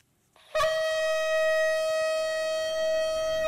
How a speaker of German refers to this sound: Da erhob sich ein Donnern und Blitzen. Eine dichte Wolke lag auf dem Berg und es ertönte der laute Schall des Shofarhorns.